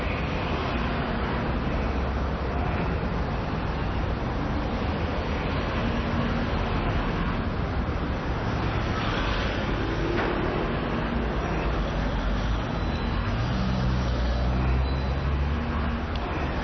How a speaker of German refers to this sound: Mitten auf der Straße steht ein Auto. Die Autos fahren hinter uns und vor uns quer.